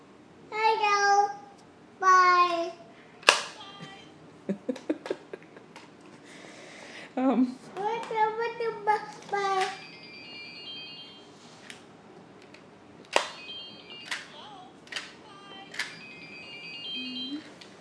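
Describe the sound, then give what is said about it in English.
A toddler babbles in short, sing-song bursts, pretending to have a conversation on a toy phone and saying bye, pausing between phrases, while the toy phone plays bright electronic ringing tones and beeps in between, all fairly quiet. “it's really cute because he's pretending to have a conversation, and he was babbling and then saying bye, and I think that's really cute.”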